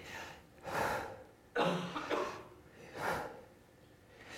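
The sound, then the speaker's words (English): Slow, deliberate breathing: three long, airy breaths drawn in and pushed out in a steady rhythm, with brief quiet gaps between them and no talking; a person breathes in on "Yah" and out on "Way", the two syllables of the name Yahweh. “Breathing Yah, breathe it in on the Yah.”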